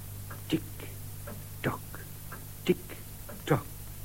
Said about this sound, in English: The old clock. Do you hear it? Yes. It isn't very loud when it stops. I know at once.